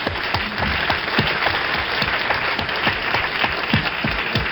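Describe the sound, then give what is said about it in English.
A crowd applauds steadily, a dense wash of many hands clapping at once with individual sharper claps popping out, holding an even, moderately loud level throughout with no voices. “Now, I'll applaud.”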